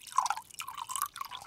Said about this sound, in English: Second, you boil the noodles so they would be tender. Then you take the noodles out and then put them in the basket to let the water drain off.